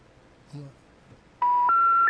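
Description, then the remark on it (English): Loud telephone keypad tones sound in quick succession as someone dials a phone call, three steady dual-pitch beeps running together near the end, after a brief faint vocal noise early on. “Let me make one last phone call.”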